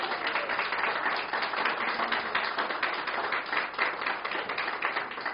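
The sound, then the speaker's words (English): An audience applauds a performer steadily for several seconds, a dense wash of many hands clapping at once with no pauses, holding an even, moderately loud level throughout and no voices over it. “let's give another round of applause for Katie”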